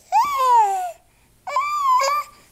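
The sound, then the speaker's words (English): A baby cries and babbles in two loud, wailing bursts, each under a second long and separated by a short pause, with no other voices around. “the baby.”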